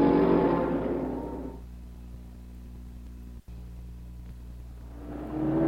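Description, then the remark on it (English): Peter Revson's orange number 7 Can-Am race car roars past at Laguna Seca with a Hornet on its tail and fades into a low engine drone, then a second car's engine swells loudly as it approaches near the end. “Revson streaks by with a Hornet on his tail.”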